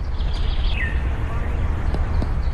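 A few thin bird chirps and a falling whistled call sound early on, fairly faint, over a steady low outdoor rumble, with a couple of brief clicks near the end; birds chirping in Moscow in the dead of winter.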